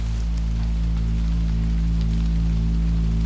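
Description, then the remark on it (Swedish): Steady rain falls outside a cabin amid fog, pitting the ground and running in deep furrows down a slope toward a river, in a continuous hiss with faint scattered patter, layered over a low constant hum, with no voices. “Regnet hade gjort gropar i marken utanför och rann i djupa fåror nerför slänten mot älven.”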